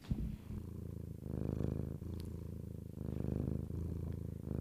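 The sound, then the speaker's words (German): A cat purrs steadily, a low rumbling drone that swells and eases in rhythmic cycles with each breath, continuing without pause and with no voices. “er kann immer nur schnurren.”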